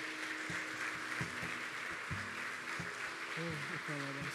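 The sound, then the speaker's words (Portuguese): An audience claps steadily in praise of God in a dense, continuous wash of applause, while voices call out and murmur underneath at a similar level. “Aplauda Ele, aleluia.”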